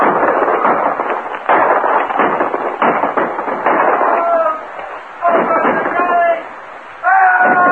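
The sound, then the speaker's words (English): Loud, rapid bursts of gunfire crackle in dense volleys, pausing briefly between rounds, while voices shout over the shooting; men at a stockade near its gates fire guns at attacking Indians who are shooting arrows. “Tie them back, men! Use your guns!”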